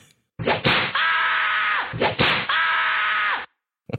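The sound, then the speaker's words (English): Two sharp whip cracks about a second and a half apart, each a loud snap followed by a bright, hissing tail, with no voices. “Can you bring back Whip the Prisoners, please?”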